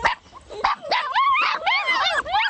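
A litter of puppies at a private dog farm in Kangal howl and whimper together while pawing at a chicken wire fence, a steady, overlapping chorus of high, wavering cries, fairly loud, with short yips breaking through. No one speaks.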